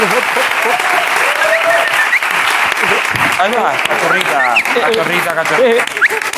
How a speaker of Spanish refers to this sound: Vale, pues un aplauso